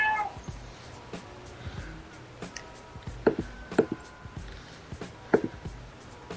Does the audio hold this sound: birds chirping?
no